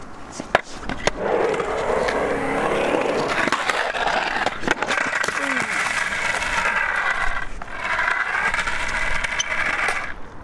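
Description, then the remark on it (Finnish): A skateboard rolls steadily over rough pavement with a continuous gritty rumble, broken by a few sharp clacks of the board and wheels hitting the ground, as the skater, on a first attempt at a rock-and-roll trick, slips off the board without falling. “Ja tipuit laudalta, mutta onneksi et kaatunut sentään.”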